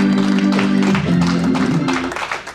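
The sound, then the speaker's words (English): An audience claps their hands for the Lord during a church sermon, a dense, steady wash of applause, loud and sustained, with a low sustained tone, like an organ or voices, humming beneath it before fading slightly. “Come on, clap your hands for the Lord.”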